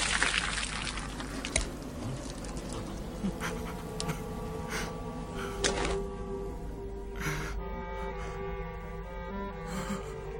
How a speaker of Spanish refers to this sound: Nosotros tenemos muchas reservas de agua. Vamos a llenar tu odre de agua.